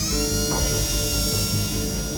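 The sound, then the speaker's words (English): A steady, high-pitched drill whine grinds on without a break, like a dentist's drill, with a dense mechanical hum underneath and no voices. “For others, it's like a dentist drill, always grinding away in the background.”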